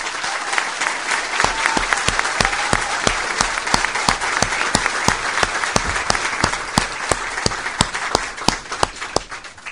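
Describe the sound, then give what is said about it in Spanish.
Sustained applause from an audience for the outgoing minister Julio Garay, dense overlapping claps forming a steady wash of sound with sharper individual claps standing out rhythmically, lasting the full clip without speech. “Recogemos la larga experiencia y el enorme trabajo de quienes nos precedieron, y queremos particularmente pedirles un aplauso para el compañero que nos ha ayudado intensamente en estos últimos meses, el ministro saliente, el compañero Julio Garay.”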